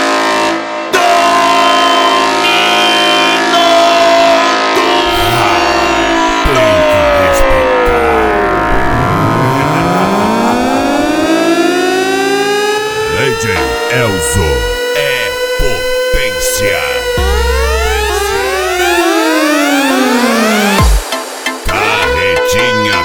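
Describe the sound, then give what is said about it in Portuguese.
A loud, brassy horn blares continuously, its harmonic-rich tone sliding down in pitch and then sweeping back up in long glides, with a few choppy blasts before it cuts off near the end. “LTS, a corneta do racha.”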